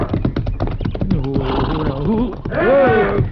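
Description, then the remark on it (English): A horse stomping on a man by a corral: a rapid run of heavy thuds, then pained groaning and moaning, ending in a loud, shrill, wavering cry like a horse's squeal. “But that horse is stomping him.”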